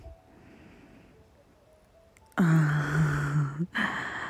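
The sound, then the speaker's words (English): After a quiet stretch, a sudden loud gasp cuts in. It is voiced and drawn out, breaks off briefly, then picks up again, with no talking around it. “I love how you gasp.”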